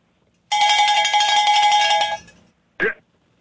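A loud, sustained cowbell rings steadily for about two seconds with bright metallic overtones, then fades, followed by a brief separate clank or strike.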